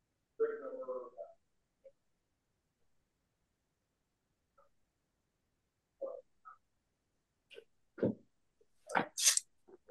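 A short, sharp sneeze bursts out near the end after a few quieter throaty noises and scattered clicks, brief against otherwise quiet surroundings.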